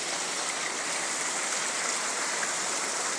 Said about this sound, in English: Yeah, it's really raining out here a lot.